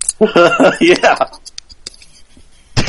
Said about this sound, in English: It sounds like he's tap dancing on a keyboard.